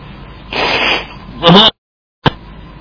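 Someone blows their nose in two forceful, breathy bursts, a longer rushing blow then a shorter, louder honk, followed by a brief silence and one quick sharp noise.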